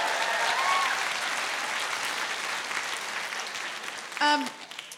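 An audience applauding steadily, dense continuous clapping that fades slightly toward the end, with a brief voice breaking through near the finish.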